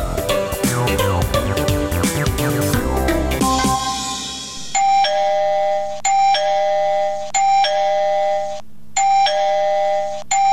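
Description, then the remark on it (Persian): A gate doorbell is pressed over and over early in the morning: a dense burst of chiming tones at first, then a steady run of bright repeated buzzing rings with short gaps between them, loud and insistent, with no talking. “کوچه کیست؟ صبر کن آمدم و صبر کن که گوشی ما را کر کدی.”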